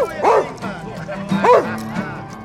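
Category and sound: animal, dog barking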